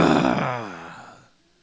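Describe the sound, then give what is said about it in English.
A person's voice imitates an angry growl, one low, rough, guttural vocalization that starts loud and gradually trails off over about a second before falling silent. “When we're angry, we growl, you know.”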